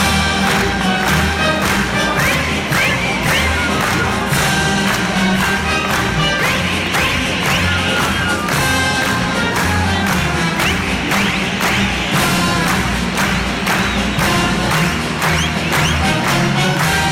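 At the Waldbühne after dark, a large audience jumps up and claps along on beats 1 and 3, like at a folk music concert, in a steady, even beat while shrill whistles and cheers rise above the dense, loud clapping for the whole stretch.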